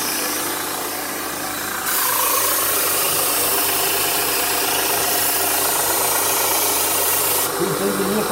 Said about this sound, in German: Der muss jetzt auf der ganzen Schneide bis vorne sein. In wenigen Augenblicken ist mein Messer scharf, wie neu gekauft. Was hat der Fachmann gemacht? In einem Winkel von 35 Grad lief das Schleifband unter der Klinge hinweg.